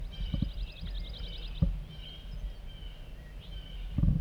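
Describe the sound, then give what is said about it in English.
A wild bird coming in chitters in a fast, high-pitched run of tiny repeated notes for over a second, followed by a few thin whistles, with low thumps and rumble underneath. “Chittering by a wild bird coming in.”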